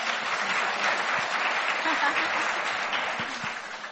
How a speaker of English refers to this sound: A big round of applause for the entire musical team.